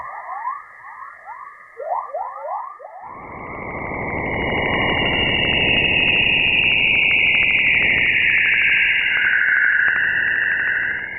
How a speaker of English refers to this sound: There are many types, but my favorite are the chorus waves. They got this name because they sound like a chorus of birds in the morning, and these waves are typically found on the dawn side of the Earth.